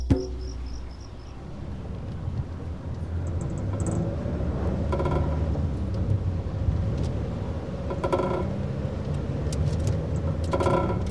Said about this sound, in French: Je roule en troisième jusqu'à la maison. Je laisse la voiture à l'ombre, descends, traverse la terrasse blanche, passe devant les doubles fenêtres protégées par de fines moustiquaires.